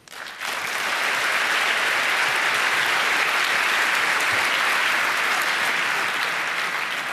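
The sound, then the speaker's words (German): A crowd breaks into sustained applause to welcome the speakers, steady and dense clapping from many hands for several seconds without any talking. “Also, heißt sie willkommen mit einem schönen Applaus unsere Speaker”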